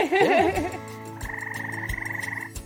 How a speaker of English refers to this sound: When it's the rainy season, so many frogs, so many males. Frogs attract females by the whistles, by the noises, and the females always choose which one male frog is good singer. And good singer male frogs attract so many females.